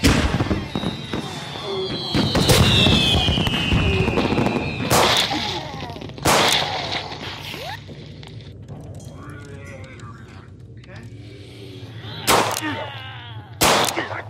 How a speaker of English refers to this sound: Fireworks.